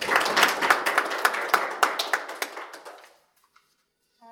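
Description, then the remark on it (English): An audience at a faculty lecture in Cambridge applauds the introduced speaker, a dense crackle of many hands with a few sharper claps standing out, tapering off after about three seconds into near silence. “Can I give us a wish, a round of applause for her mentor we're looking forward to.”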